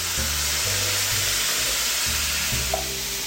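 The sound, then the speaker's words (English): Beans and their liquid pour into a sizzling pan, a loud, steady hiss of frying with low bubbling and thudding underneath, with no one talking. “So in go the beans and their liquid.”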